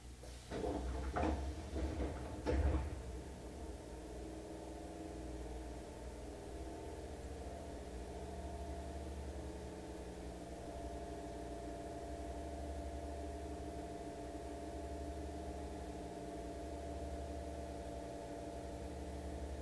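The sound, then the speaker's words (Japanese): A few sharp mechanical clunks and a sliding rush in the first seconds as the right-side doors of a subway train open at Tenjinbashisuji 6-chome station, a transfer point for the Sakaisuji and Hankyu lines, then a steady low electrical hum of the stationary subway car carrying on with no voices. “天神橋筋6丁目、天神橋筋6丁目堺筋線阪急線は乗り換えです。右側の扉が開きます。”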